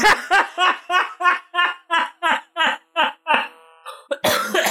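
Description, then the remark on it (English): A loud run of about a dozen rapid, rhythmic coughing bursts, evenly spaced and voiced almost like laughter, breaking off briefly before a final harsh burst. “Oh, God, you really got me when I start coughing.”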